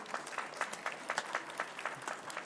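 A small audience at a reading claps steadily, a dense patter of many hands at moderate volume, sustained throughout with no voices standing out.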